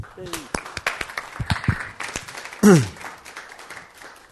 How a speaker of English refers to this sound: Oh, I think we'll give you a little clap.